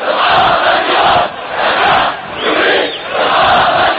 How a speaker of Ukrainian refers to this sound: У неділю в Наві пройшли похорони протестувальників, вбитих силами безпеки, на яких люди вигукували антиурядові гасла.